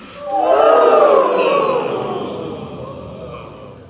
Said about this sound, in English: Good, and now a higher indulgent yawn, please.